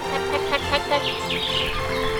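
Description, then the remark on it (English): Several short, bright bird chirps and a rising, sweeping call over a steady low background hum with no talking. “And only the sound of the occasional bird.”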